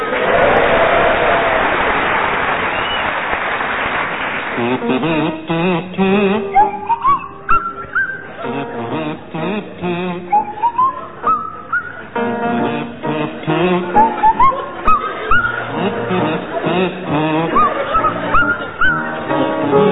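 After a short burst of noisy sound, a buzzing kazoo and a Swanee whistle play a jaunty tune together, the whistle sliding upward in repeated swoops over the kazoo's nasal melody.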